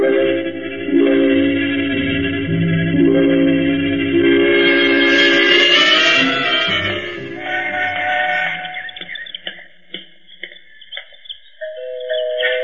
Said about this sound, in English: Even the door chimes sound rich.